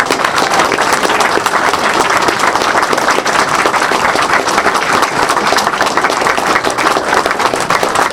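Sustained, dense applause from a large crowd, loud and steady throughout with many overlapping claps forming a continuous roar, no talking heard.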